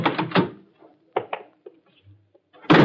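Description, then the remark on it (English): Fairly loud thumps and clatter of the door of a small house up a dark road in Jersey being opened and then shut, coming in short bursts with brief quiet gaps between them and a heavier bang at the end. “I watched Roberts get out, knock, and go inside.”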